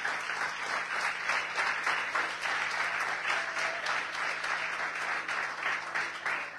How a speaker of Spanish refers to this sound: ¿Cuántos dicen gloria a Dios y le dan un aplauso a la palabra? Aleluya.